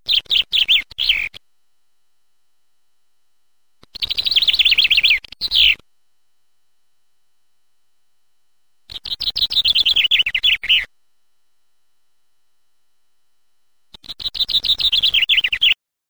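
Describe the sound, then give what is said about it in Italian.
A chaffinch sings four clear song bursts, each a quick descending trill of bright notes ending in a flourish, separated by several seconds of silence. “Il fringuello.”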